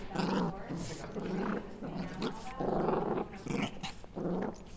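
A dog named Clyde growls in low, rumbling bursts, fairly loud, with brief pauses between each throaty snarl and no voices present.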